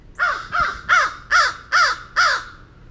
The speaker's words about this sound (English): Okay, well, that's still the same crow. It's really bizarre vocalizations. I've heard them twice like that, once down in Flamingo in the Everglades, and now here in Mayaca State Park.